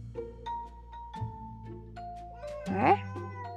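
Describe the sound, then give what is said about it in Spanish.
Cats fight, yowling and meowing at each other in drawn-out, wavering cries, building to a louder rising screech near the end, with no talking. “Ah, ya están peleando estos gatos.”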